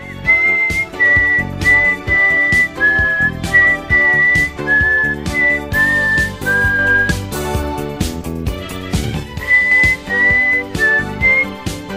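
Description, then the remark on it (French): A woman whistles along to the theme tune of her own show, which plays as a loud musical backing. The thin whistled melody wanders noticeably off-key against the music throughout, with steady rhythmic accompaniment and no talking. “Mais attendez, ce n'est pas terminé, car elle va nous donner une preuve incroyable que l'on peut passer tous les jours, du lundi au vendredi, le générique de sa propre émission, mais en parallèle, le sifflet totalement faux.”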